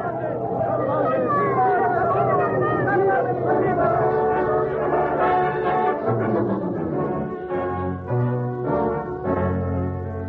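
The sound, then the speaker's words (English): A large crowd in Naples cheers and shouts in celebration without pause, many voices overlapping into a loud, sustained roar of excitement for the whole stretch. “Yes, a forgotten man stood on the outskirts of the crowd that day in Naples, the cheers of hope and triumph ringing in his ears.”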